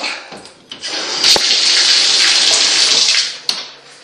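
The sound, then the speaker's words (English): A bathtub tap gushes steadily, a loud hiss of running water that swells in after a brief start and holds evenly for a few seconds, with a couple of small knocks and splashes. “And that's what my tub sounds like.”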